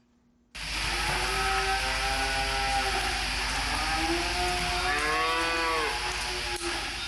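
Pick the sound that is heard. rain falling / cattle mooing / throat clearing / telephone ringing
cattle mooing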